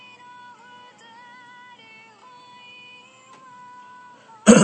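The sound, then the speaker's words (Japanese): A single loud, sharp cough bursts out at the very end, after several seconds of a quiet, steady tonal hum with no talking. “相変わらずあの咳込むとあの右側に、ボリュームが飛ぶってことは、あ、まあ吹っ飛んでんだろうなこれ。”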